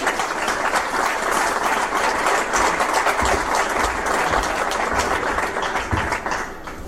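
Sustained audience applause, a dense crackle of many hands clapping at a steady, even loudness for about seven seconds, tapering slightly at the end, with no voices over it.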